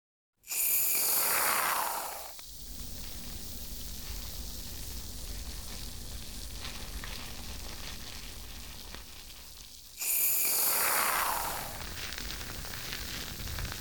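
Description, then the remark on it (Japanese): Shampoo foam, dispensed for a hair wash, fizzes and crackles in a steady, dense hiss for several seconds, bracketed by two louder, bright spraying bursts. No one speaks. “ほら、シュワシュワパチパチって音するでしょ。”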